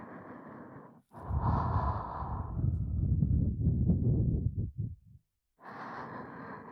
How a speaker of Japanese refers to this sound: 女性である私にこんなに近くで耳元でささやかれて、吐息を耳に当てられてゾクゾクとする。